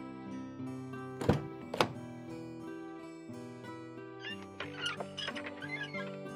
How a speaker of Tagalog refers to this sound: Oh, ayan na yung kotse. Sandali, buksan ko lang yung pinto ng kotse ha.